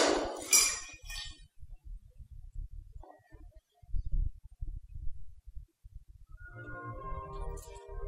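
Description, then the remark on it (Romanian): A clay vessel smashes with a loud, sharp shattering crash right at the start, followed by scattered low thuds and rumbling, with a faint tonal hum emerging near the end. “Și ca să înțeleagă nervii lui Dumnezeu, sparge vasul!”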